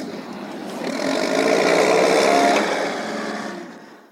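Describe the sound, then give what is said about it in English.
A heavy bulldozer engine revs up and churns steadily as it levels ground pushed up by an earthquake, swelling to a loud peak midway before easing off toward the end, with no voices. “The bulldozer levels the ground that the earthquake pushed up.”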